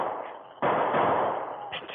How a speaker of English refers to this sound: A signal. 3 shots from a rifle ringing out of the prairie fastness.